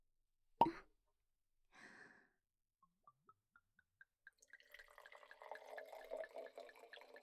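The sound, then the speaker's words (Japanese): A sharp pop, then wine glugs out in quickening drips before streaming steadily into a glass, fairly quiet, with no talking. “あ、ワイン飲みましょうか。私のおすすめの銘柄なんですよ。”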